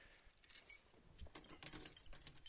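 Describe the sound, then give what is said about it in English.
A bunch of four van keys jangles and clinks, a busy metallic rattling that continues for a couple of seconds with no one talking. “This van, by the way, has four different keys, and they all look the same.”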